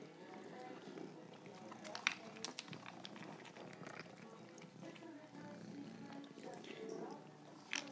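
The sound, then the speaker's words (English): A cat named Pinky purrs steadily, a continuous low rumble lasting the whole stretch, with a few small clicks and rustles breaking through now and then. “The one you can hear purring is Pinky.”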